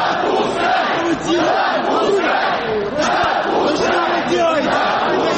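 About 3,500 people at a street protest in central Moscow on 27 July 2019 roar and chant in a steady, dense wash of many voices. They are demanding that unregistered candidates be allowed to run in the Moscow City Duma elections. Rising and falling shouts are layered over a continuous loud rumble.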